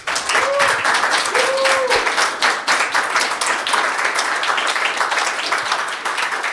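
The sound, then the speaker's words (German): Sustained applause from an audience at the end of the last talk of an evening event, a dense crackle of many hands clapping steadily for several seconds, with a couple of brief whistles rising above it early on. “Okay, dann einen ausgiebigen Applaus bitte.”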